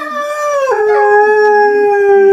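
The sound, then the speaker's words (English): Hounds bay in long, drawn-out howls, their voices sliding down in pitch and then holding steady, loud, with several dogs overlapping and no one speaking. “Those hounds are baying.”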